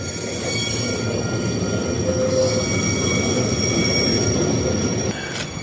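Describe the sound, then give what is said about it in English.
A long freight train with tarpaulin-covered cars rumbles steadily past, its wheels letting out sustained high-pitched squeals and metallic whines over the continuous low roar of rolling cars. “It's a long train.”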